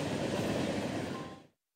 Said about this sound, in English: Until then, the most frequently heard locomotive sights and sounds in this part of California will be from the many slow-moving freight trains traveling through the valley.